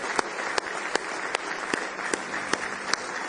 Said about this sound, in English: Do you love Him tonight? Give Him a big hand clap of praise if you love Him.